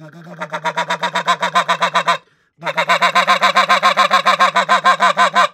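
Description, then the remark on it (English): A goose call blown loud in quick, throaty, guttural honks made by growling or gargling into the call, a steady rapid run of notes broken by one brief pause, imitating a Canada goose as a finishing note. “And that's a really good note to have when you're finishing Canada geese.”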